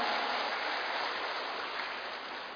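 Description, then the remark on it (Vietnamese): An audience applauds to open a Buddhist program, a dense wash of many hands clapping at once, sustained and fairly loud throughout with no voices over it. “Và để bắt đầu chương trình ngày hôm nay, xin toàn thể đại chúng dành một tràng pháo tay thật lớn để chương trình của chúng ta chính thức bắt đầu.”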